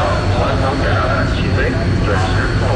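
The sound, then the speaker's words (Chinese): Several aircraft of a Southern Theater Command Navy aviation unit take off one after another at 7 a.m. through rain on a tower controller's order, engines roaring steadily in a continuous broad rumble that fills the whole clip while a person talks over it. “早上7点，随着塔台指挥员一声令下，南部战区海军航空兵某部多架飞机接续升空，穿破雨幕飞向指定空域。”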